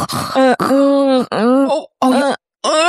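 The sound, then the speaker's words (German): A voice imitates loud, noisy breathing, producing four groaning, voiced huffs in quick succession with brief pauses between them, loud. “Ich judge Leute, wenn so Geräusche machen beim Schnaufen.”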